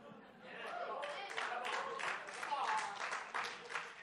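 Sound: audience clapping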